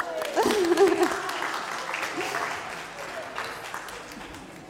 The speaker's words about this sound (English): Let's give them a clap.